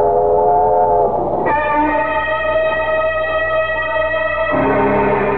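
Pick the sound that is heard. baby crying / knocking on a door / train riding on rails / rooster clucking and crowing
train riding on rails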